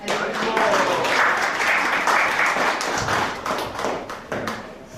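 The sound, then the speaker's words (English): Audience applause after a talk on the pastimes of the six Goswamis, a dense, steady wash of many hands clapping at once, loud throughout with only a slight dip near the end. “Let's give a big round of applause to everybody.”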